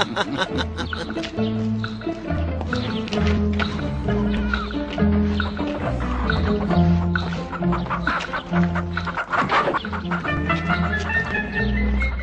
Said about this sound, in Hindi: रुक रुक, तुझे पकड़ लूं। लौनती मुर्गे, एक बार मेरे हाथ लग जा तो फिर मैं तुझे बताती हूँ।